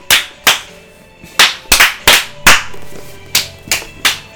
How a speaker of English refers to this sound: Clap against our enemies real quick.